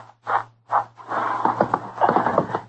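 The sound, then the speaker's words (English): Two heavy thuds, then a busy jumble of hoof clops, shuffling and scraping as a lame horse moves about, with a low steady hum underneath. “My horse is lame, but I'll get you home on him.”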